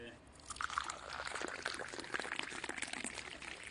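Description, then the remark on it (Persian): Tea poured from a height to serve a guest, in a steady, splashing stream that swells after a quieter first half-second and keeps a bright, gurgling hiss for several seconds. “چای هم بدم خدمت شما. از اون بالا بریز.”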